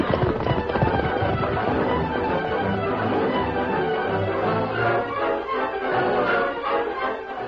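horses galloping away

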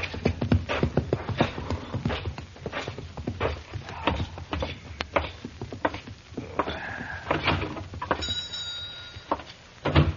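horse hooves clip-clopping

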